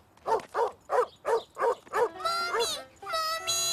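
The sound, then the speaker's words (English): A dog barks angrily, six sharp barks in quick, even rhythm, then breaks into longer, higher-pitched drawn-out cries that fill the rest of the moment. “The dog sounded angry.”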